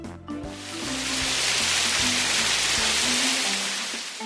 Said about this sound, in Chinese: 下雨了！